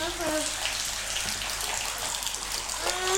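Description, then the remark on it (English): Water rushes steadily into a filling bathtub as bubble bath is poured in, a continuous splashing hiss, with brief snatches of a voice at the start and end. “Okay, right, have you there's got to put the bubbles in the water?”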